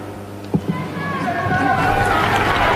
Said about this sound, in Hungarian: Kedves Mária Rádió hallgatók, a szokott módon nagy vihartaps köszönti a Szent Atyát. Ezzel búcsúznak el ők is a Szent Atyától, és mi is a kedves hallgatóktól.